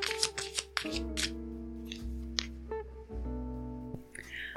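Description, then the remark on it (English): Cards being shuffled, a quick burst of riffling flicks followed by softer slides and taps, all over a steady low background drone with no one talking. “Okay, so let's shuffle these cards.”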